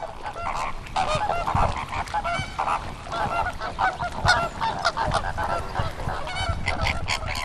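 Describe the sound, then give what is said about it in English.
A dense flock of flamingos calling over a wetland in the Camargue, a steady, overlapping chorus of nasal, goose-like honks that keeps going without pause, full. “I'm always sad to leave, but great to be here to enjoy the flamingos and the avocets and all the other wonderful birds and the hospitality here.”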